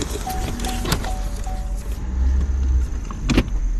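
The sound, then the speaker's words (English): A car engine hums steadily while following another car that has a light blue diplomatic number plate with a red stripe, with faint clicks and mechanical whirs early on, then a deeper low rumble as the vehicle moves along. No one speaks. “I follow the car for a while and notice it has an unusual number plate.”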